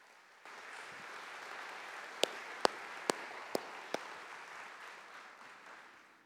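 An audience applauds steadily for about six seconds, a dense wash of clapping with no voices, punctuated midway by five sharp, louder individual claps spaced roughly half a second apart.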